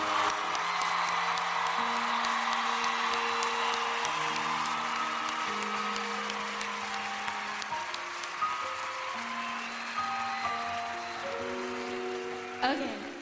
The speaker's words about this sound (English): So I want to thank you guys. And I want everyone to give a round of applause. So give it up for them again, please.